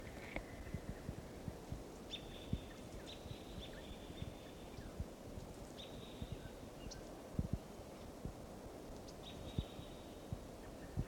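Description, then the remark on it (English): Thin, high whistled calls of wild birds in a park repeat every few seconds, faint, over a constant low rumble and crackling outdoor noise, at about 7 o'clock. “Here's that wild bird.”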